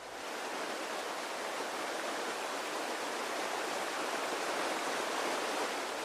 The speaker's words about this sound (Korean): 그렇다고 단순히 길기만 한 해안선이 아니다. 철썩이는 파도를 따라 아름다운 모래 백사장과 구불구불 여유로운 해변이 끝도 없이 펼쳐진다.